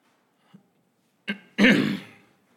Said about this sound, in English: Just to let you know, I'm trying hard not to clear my throat too much this morning.